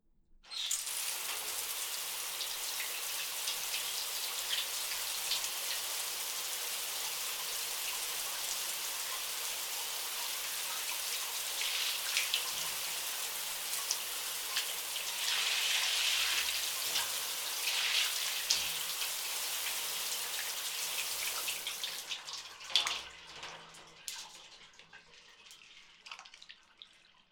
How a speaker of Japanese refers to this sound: シャワーで泡を洗い流そう。